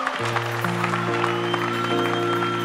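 A crowd claps steadily, a dense, continuous patter of hands over sustained keyboard chords that hold and shift beneath it throughout.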